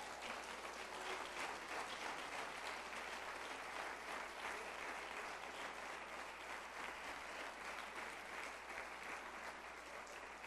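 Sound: applause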